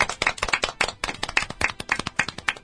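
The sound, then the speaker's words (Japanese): A small group claps for a few seconds in the studio of community radio station Tenjin Community, Daimyo, Chuo-ku, Fukuoka, Japan, marking a live talk show's 318th broadcast: sharp overlapping hand claps in a quick, uneven rhythm at moderate loudness, with no talking. “拍手。”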